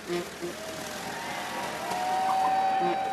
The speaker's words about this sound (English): A procession of antique cars carrying past military service members drove through a red ribbon to open the new bridge.